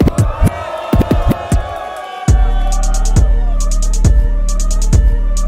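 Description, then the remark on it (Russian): A crowd at a rap battle cheers and whoops for about two seconds at the start of the second round, then a loud hip-hop beat kicks in with a deep, steady thumping kick drum and crisp hi-hats. “Поддержим народ!”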